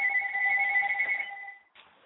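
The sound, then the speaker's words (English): A call-in phone line rings once with a steady, bright electronic two-tone trill that holds for under two seconds, then cuts off abruptly, followed by a short burst of faint noise. No one speaks. “Phone lines are lighting up all over the place.”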